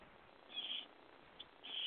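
A bird calls overhead outdoors in the Keys in high, shrill bursts: a longer call, a brief chirp, then another sustained call. The calls are fairly faint against quiet background hiss, with no one talking.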